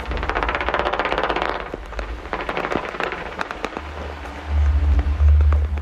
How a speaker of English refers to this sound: It's not a very romantic day today. It's raining.